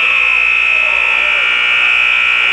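A loud, sustained basketball game-ending buzzer blares steadily for a few seconds as Marysville takes a last shot, ending Marysville's season-opening win over Axel, its harsh electronic drone holding constant over faint background crowd noise.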